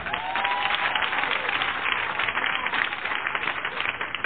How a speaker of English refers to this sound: Any parents out here tonight? Parents clap.